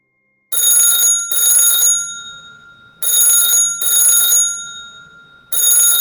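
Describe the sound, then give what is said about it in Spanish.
A classic bell telephone rings loudly in a house at about 12:30 at night, in double bursts: two rings, a pause, two more, then a fifth starting, each ring a bright metallic trill that decays briefly. No voices. “Poco después de acostarla, cuando estaba medio dormida en la cama, el teléfono interrumpió su descanso.”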